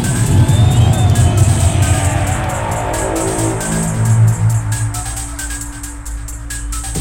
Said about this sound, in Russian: Мы аплодируем вам, а вы нам!